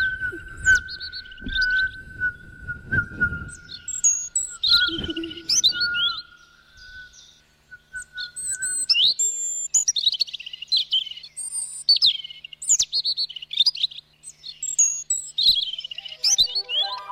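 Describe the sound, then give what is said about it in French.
A child imitates a European robin's song with high, warbling chirps and whistled trills in quick bursts, a steady tone running underneath at first, with brief pauses between phrases. “j'imite le rouge-gorge.”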